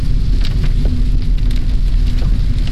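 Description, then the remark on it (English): Heavy rain pours onto a street in a steady, dense wash of hiss and patter, with a low rumble underneath and scattered sharper drops, loud throughout with no voices. “If it rains like this, well, actually, it rained like that.”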